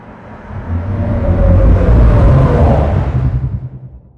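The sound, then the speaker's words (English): A deep, rumbling sci-fi spaceship engine drone, built from underwater recordings of different whales and sea creatures, swells up and holds steady with a low throbbing hum and faint groaning, whale-like tones layered above it, then fades out after about four seconds. No one speaks. “And then this final version I made with some underwater recordings of different whales and sea creatures.”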